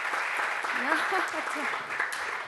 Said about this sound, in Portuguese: Não batam palmas a mim, hoje as palmas são todas para vocês, o trabalho é vosso.